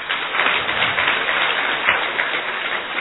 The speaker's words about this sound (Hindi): अच्छी तरह ताली बजाइए।